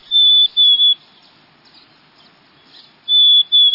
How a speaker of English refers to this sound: Quite a contrast to the plaintively whistled notes of the black-capped chickadee, often found in the same habitat.